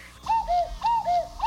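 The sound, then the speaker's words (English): A cuckoo call, a cue that it is time to go, repeats its two-note pattern, a clear higher hoot falling to a lower one, heard about two and a half times in steady rhythm over a faint low hum, with no talking. “Uh-oh, the cuckoo kids.”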